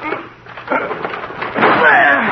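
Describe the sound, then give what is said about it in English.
A locked door being forced open by two people throwing their shoulders against it: a heavy thud, then a louder crashing burst of wood and rattling that carries on to the end, with muffled voices underneath. “Well, we've got to break the door down.”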